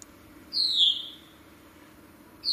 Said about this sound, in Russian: Это мы, друзья, на даче. Мой лэптоп стоит. И тут вот дверь открыта на улице. А там птичка поет.